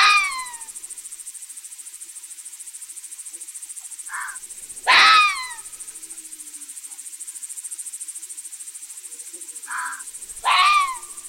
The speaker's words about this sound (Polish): Głosem wydawanym przez lisa jest charakterystyczne szczekanie. W gwarze myśliwskiej zwane skoleniem. Jest to przeciągły, metaliczny, tęskny zew.